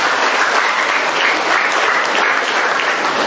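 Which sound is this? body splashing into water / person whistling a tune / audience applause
audience applause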